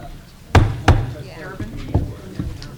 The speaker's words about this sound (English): I'm gonna bang that gavel for me.